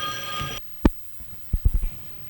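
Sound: telephone ringing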